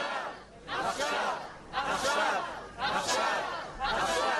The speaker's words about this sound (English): The speaker says, so return them home, not next week and not next month and not next year, return them home now, with the crowd responding, now, now, now.